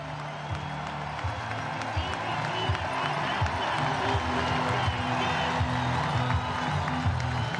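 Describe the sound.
A stadium crowd of German fans cheers in a steady, dense roar of many voices, with scattered clapping and shouts rising and falling but never letting up over several seconds, as an athlete slowly comes into the crowd's view.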